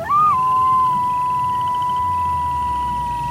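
A single long coyote howl rises quickly, then holds one steady, clear pitch for several seconds at moderate loudness over a faint low rumble, with no voices.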